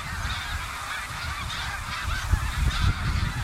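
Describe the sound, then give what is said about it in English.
A flock of snow geese honks continuously overhead while heading north in New England, many overlapping calls, over a steady rumble of wind or low background noise. “I mean, I think that these geese are one of the great natural events in all of New England.”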